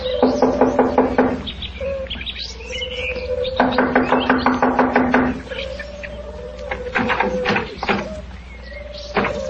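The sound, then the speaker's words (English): Two bursts of rapid, rhythmic knocking on a wooden door, loud, separated by a short pause, with faint chirping and scattered sharper taps afterward. “I'll knock on the door.”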